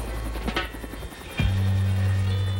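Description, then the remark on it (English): The presidential helicopter takes off from the White House lawn carrying Richard Nixon in 1974: a loud, broad engine roar with rhythmic rotor wash, then a steady low turbine drone settles in and holds. “The presidential helicopter carries Nixon off the White House lawn.”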